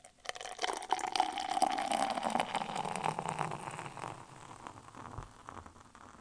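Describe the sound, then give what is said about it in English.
Stout beer pours steadily into a glass for several seconds, a continuous gurgling rush with a bubbly fizz that gradually softens and thins toward the end. No one speaks. The stout is nearly black with a dark tan head. “I'm going to switch to the beer mic here so you can listen to the pour.”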